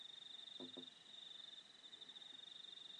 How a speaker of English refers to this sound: You hear the sounds of the crickets, all that, out there.